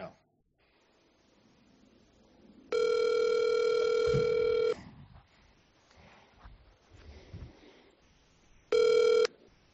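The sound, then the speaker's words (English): A phone line ringback tone from an outgoing call: a long steady electronic ring of about two seconds, a pause with faint background noise, then the start of a second ring. Clear, with no talking. “Like, let's just see if she picks it up. I'll show you how I never, like, answer a phone normally.”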